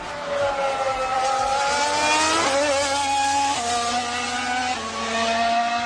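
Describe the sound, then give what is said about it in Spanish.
A Mercedes racing car engine screams loudly and continuously, its pitch climbing and then dropping sharply several times as it shifts through gears, with no voices present. “Así que a ver a qué coche corresponde este motor.”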